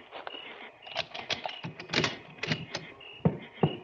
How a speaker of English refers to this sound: Now, unlock the station door and go in ahead of me.